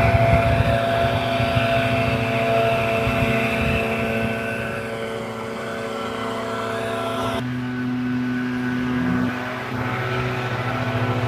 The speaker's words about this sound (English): Okay, this is gonna get loud. I got two guys with leaf blowers. I'm gonna have to walk by them.